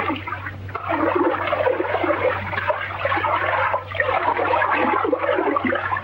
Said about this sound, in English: a lobster jumps into a pan of water to refresh itself.